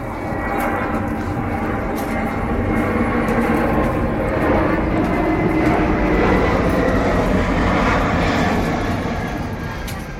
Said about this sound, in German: Alle 2 Minuten donnert das Flugzeug über die 1- bis 2-stöckigen Bachsteinhäuser. Dann hören alle für einen Moment auf reden und warten, bis es wieder still ist oder mindestens ein bisschen ruhiger.